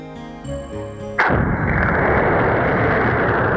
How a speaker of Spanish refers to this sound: Una de estas técnicas consiste en provocar una explosión en el interior de la corteza.